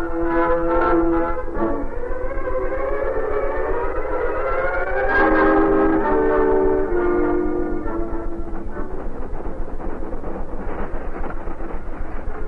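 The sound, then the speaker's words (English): A train made up of only an engine and a caboose moves westward on new rails, rumbling steadily, its loud horn sounding in long, wavering blasts near the start and again midway, with the clatter continuing after the horn fades. “A train composed only of an engine and a caboose that moved westward on new rails.”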